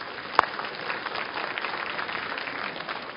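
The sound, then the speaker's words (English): A church audience applauding its older members: a steady, dense patter of many hands clapping together for a few seconds, moderately loud and even throughout, with one sharp isolated knock near the start. “And if we ever applauded anybody, we really ought to applaud the older folks that are here today.”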